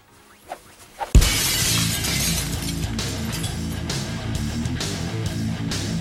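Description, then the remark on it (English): Two faint taps come first, then a mirror's glass shatters in a loud crash, with shards tinkling and clattering for several seconds afterward as the pieces settle. No one speaks. “What if I punch this mirror?”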